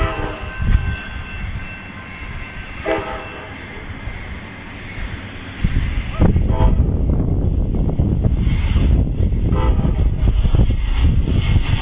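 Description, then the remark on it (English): Train number 67 approaches a railroad crossing with its gates down, with a rumbling roar that swells and grows louder, its horn sounding in long tones before the heavy clatter of passing rail cars takes over; it is around 71 to 73 degrees out. “Yep, here it comes.”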